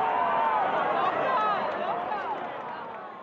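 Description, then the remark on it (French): Dense crowd uproar fills a packed town square by the Palazzo Pubblico as flags are hung from its windows, countless voices shouting and cheering over one another in a loud, continuous roar that eases only slightly toward the end. “Un brouhaha contrastant avec le silence de l'attente qui suit les révélations. Beaucoup d'émotions, beaucoup de cris et quelques larmes.”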